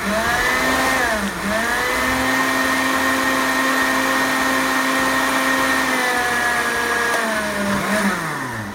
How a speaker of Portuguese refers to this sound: Bom, pessoal, agora eu coloco esse creme aqui, ó. Deixa eu puxar bem do liquidificador. Vou colocar aqui nessa tigela funda.